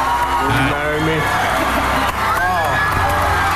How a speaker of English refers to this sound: And everybody is applauding, and they're starting the wave, and all the John 3:16 signs come out.